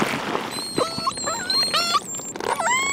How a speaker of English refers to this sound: That's a whale, Laura? I love that so much. I love that too. I would not have identified it as whale.